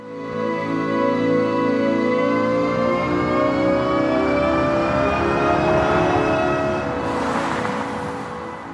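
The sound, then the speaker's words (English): A synthesized sound played as a Nissan electric car accelerates: layered, steady electronic tones rise gradually in pitch for several seconds, with a brief airy whoosh near the end. No one speaks. “And now some of her team's work is becoming actual design, like this sound that plays as a Nissan electric car accelerates.”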